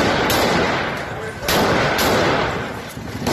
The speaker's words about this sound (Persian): تصاویر منتشر شده از حمله مسلحانه نیروهای سپاه نبی اکرم کرمانشاه به شهر جوانرود برای مقابله با اعتراضها. مهاجمانی که الله اکبر گویان به سوی معترضان تیراندازی میکردند.